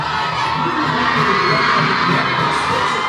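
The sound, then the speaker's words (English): A large crowd of teenage fans screams and shouts continuously at the Summer in the City YouTube conference at London's Alexander Palace, a dense, loud wall of high-pitched cheering that holds steady throughout with no single voice standing out. “Braving the screaming hordes of teenage fans”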